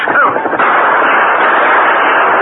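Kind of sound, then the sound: impact, gunshots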